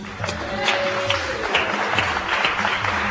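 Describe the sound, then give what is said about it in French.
An audience applauds the contestants of a TV quiz steadily for a few seconds, a dense, even wash of clapping hands with scattered sharper claps and a faint murmur of voices underneath. “On les applaudit.”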